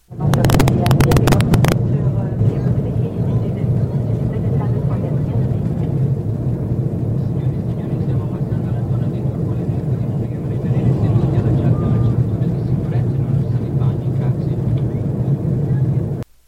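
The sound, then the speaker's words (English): Steady low-frequency engine drone fills the space, a dense rumbling hum inside an airplane cabin in flight, leaving Toronto on a trip to Italy, with a few sharp clicks at the start and faint muffled voices underneath, including an announcement in Italian. “So first, we start off on the plane.”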